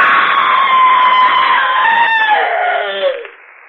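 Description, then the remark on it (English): A loud, sustained scream lasts about three seconds, shrill and strained throughout, then drops in pitch and trails off abruptly, with no talking around it. “Well, friends, as we say here in the inner sanctum, it's all over but the screaming.”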